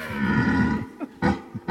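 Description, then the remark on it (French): A red deer stag bellows in a deep, drawn-out, loud rutting roar in a forest undergrowth, followed by a few shorter grunting bursts; no one speaks. “Ça, c'est le brame du cerf, non ?”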